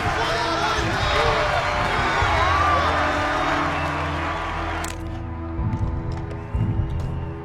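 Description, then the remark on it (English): A large crowd at a parade cheers for the Mystic Falls High School football team and chatters in a dense, loud roar that holds for about five seconds, then abruptly drops to a lower murmur with a few scattered thumps. “Let's cheer for the Mystic Falls High School football team.”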